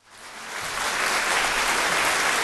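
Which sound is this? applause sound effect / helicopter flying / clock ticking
applause sound effect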